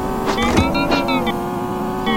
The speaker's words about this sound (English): So I'm going to go here. You can hear the other cars.